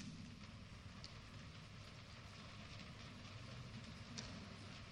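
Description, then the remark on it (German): Soft, dense pattering of fingertips tapping on a sheet of paper, imitating rainfall, continuing steadily and quietly for the whole stretch with no voices. “Und wenn wir mit den Fingerkuppen da drauf tippen,”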